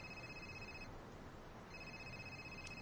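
A telephone rings in two bursts of high, steady electronic trilling with a short silent pause between them, heard over a constant low background hiss with no voices.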